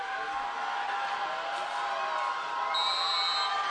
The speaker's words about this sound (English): Crowd noise coming from that Columbia Central sideline. Pumped up.